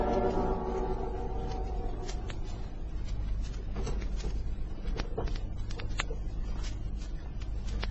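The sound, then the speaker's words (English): A drawer slides open with a run of small wooden scrapes and light clicks, scattered over a few seconds above a steady low hum. Nobody speaks. “what do you want in that drawer?”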